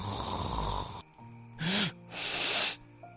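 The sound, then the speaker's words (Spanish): Loud, harsh sleep apnea snoring in three rasping bursts, broken by short silent pauses where the breathing stops during sleep before resuming. No one speaks. “Este es el ronquido característico que acompaña a cada interrupción de la respiración que se produce durante el sueño y que suele despertar al que lo padece.”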